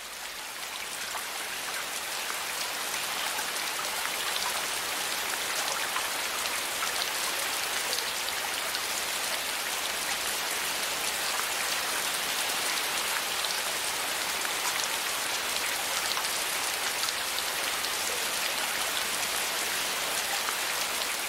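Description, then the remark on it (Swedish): Steady rain pours down without pause, a dense hiss of countless drops pattering on a surface, evenly loud throughout with no voices. “Vatten, vatten, bara vatten.”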